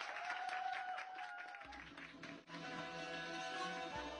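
An audience claps steadily in a loud, dense wash of applause lasting several seconds, with sustained musical tones playing underneath and no talking.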